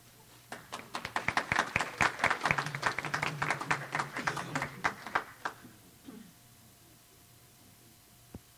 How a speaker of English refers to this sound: So without much further ado, please be generous with your applause for them. If they're funny, even more applause.